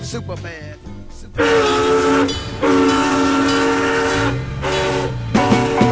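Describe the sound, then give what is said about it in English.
A train's loud horn sounds in several long, sustained blasts over a low rolling rumble, after a brief stretch of clattering rail noise at the start. “Soul train leaving New York City.”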